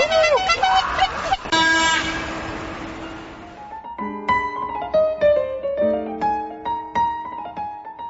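Several car horns honk over and over at different pitches, overlapping in an uneven, fairly loud series after a few seconds of street noise with rising whistle-like tones. Car horns during a motorcade in Minsk, routed through the Southwest microdistrict and the city centre to the Maksim Bogdanovich monument.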